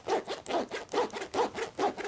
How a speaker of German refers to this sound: Wenn man es öffnet, macht es so ein Geräusch. Wenn man es zuklappt, dann hört sich so an. Eigentlich wie beim Aufmachen. Mach mal den Reißverschluss so hin und her.